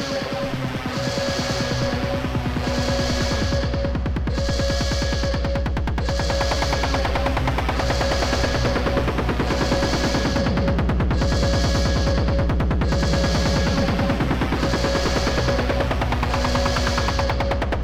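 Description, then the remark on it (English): A pounding, very loud bass drum drives a fast, steady electronic beat on an Aqualoop Records dance record, thumping relentlessly for the whole stretch alongside layered synth tones, with no voices. “This record has an extremely loud bass drum, so please protect your ears because the beat bangs.”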